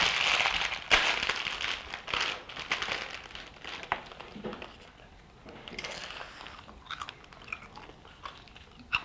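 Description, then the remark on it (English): Steady crunching of someone eating crisps, with repeated sharp bites and chewing crackles spread through the whole stretch, fairly loud, with no talking. “That'll have a nice sound of you eating crisps.”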